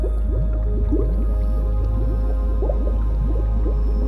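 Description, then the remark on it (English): Steady, dense bubbling from a pool of bubbles rising in the middle of a lake: many small glugs and rising pops overlapping continuously over a low, constant rumble, moderately loud, with no voices. “Now, you notice a pool of bubbles forming in the middle of the lake.”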